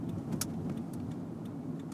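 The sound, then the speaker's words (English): Steady low engine rumble from many cars idling and creeping along at a gas station, with a few brief metallic clicks and jingles breaking through the continuous traffic hum. “Oh, there are a lot of cars at this gas station.”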